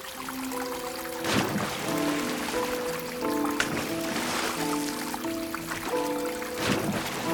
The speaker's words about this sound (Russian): Колесница остановилась. Оба в воду входят.